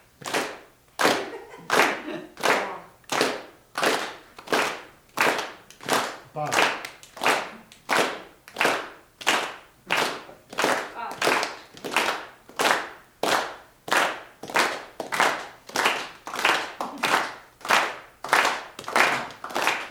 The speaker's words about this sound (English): So, let's start with the clap.